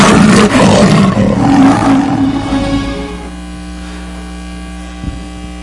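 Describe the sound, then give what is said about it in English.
A loud, deep lion roar booms for about three seconds, then fades into a low steady hum with no voices present. “And you may want to cover your ears.”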